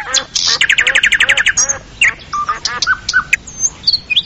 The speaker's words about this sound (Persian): پرنده مرغ مینا پرنده بسیار قشنگ و مقبول است که بسیار کمیاب می باشد